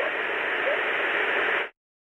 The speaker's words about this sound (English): And part of that frequency range of the white noise is going to be covering that up. And so this is known as masking, where one sound, if it's in the similar frequency range to another sound, it will cover that sound up.